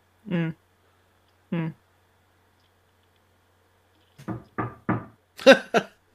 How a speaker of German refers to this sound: Reicht es eigentlich auch, wenn man Glück braucht, wenn man laut sagt, klopf auf Holz, oder muss man wirklich auf Holz klopfen? Nein, du musst schon auf Holz klopfen.